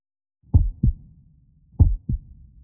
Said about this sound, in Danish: Kan du høre, hvad det her er? Det er hjertet, der slår. Hjertet er et vigtigt organ, som sørger for at pumpe blod rundt i hele din krop.